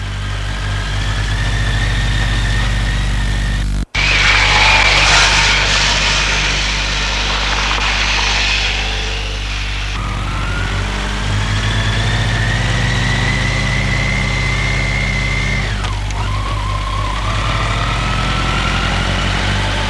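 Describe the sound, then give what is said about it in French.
A small red scooter engine idles with a steady low hum, then revs up several times, its pitch climbing and falling back, fairly loud with no voices. “Jeanne lui a acheté un scooter rouge.”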